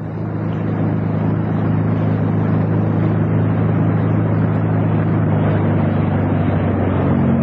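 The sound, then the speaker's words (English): A Royal Navy motor torpedo boat's engine drones steadily as the boat noses into an inlet and alongside a narrow fisherman's jetty, a deep throbbing hum with a rough, broad roar layered over it, staying loud and even for the whole stretch with no voices. “Less than half an hour later, the 1st Royal Navy MTB nosed its way into the inlet and alongside the narrow fisherman's jetty.”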